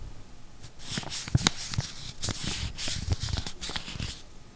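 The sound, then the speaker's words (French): Steady crinkling and crackling of paper being crumpled between fingers, a dense run of sharp rustles with a few louder snaps, lasting several seconds with no voices. “Ça, c'est le doux bruit des Pyrénées qu'on froisse entre les doigts.”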